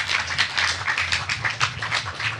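A crowd applauds, many hands clapping at once in a dense, crackling wash that holds steady and fairly loud for the whole moment, with no voices on top.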